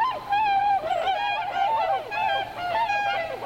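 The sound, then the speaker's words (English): A flock of swans calling together, with many overlapping high, nasal hoots and whoops rising and falling continuously, loud, with no one speaking. “And October and November mark the southward move of those massive white birds, the swans.”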